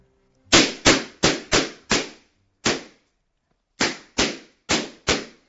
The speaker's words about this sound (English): Okay, that's the sound of a 1W Arctic Blue laser popping balloons.